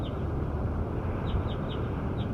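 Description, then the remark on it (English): A bird gives a series of short, high chirps, about five of them at uneven intervals, over a steady loud rumbling noise. There is no talking. “Here goes bird 7 again.”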